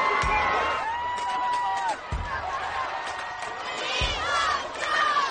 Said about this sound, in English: Where are these people yelling "We love Joe"? Let me see the lips. Nobody's saying that.